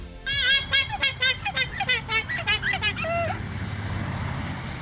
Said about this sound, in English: Wow. That sounds like is it a rubber duck? That's right. It's a literal rubber duck. It's a rubber ducky.